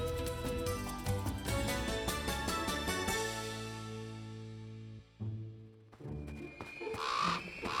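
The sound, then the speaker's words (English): A raven caws loudly, a run of harsh, raspy calls over a sustained tonal backdrop that swells again near the end. “he's just a bird having a bad day. Come on, Dewey! Don't you want to solve the mystery? Well... Okay, I'm in. Follow that raven!”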